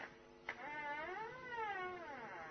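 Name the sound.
cat meowing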